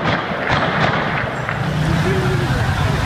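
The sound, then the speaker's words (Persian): A few sharp gunshot cracks ring out on a busy city street in Khorramabad, Iran, irregularly spaced over a constant roar of crowd noise and indistinct voices, as security officers fire toward people. “خرم‌آباد ده دی تیراندازی مامورا به سمت مردم، معلوم نیست هوایی چیه.”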